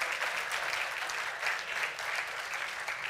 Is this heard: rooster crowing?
no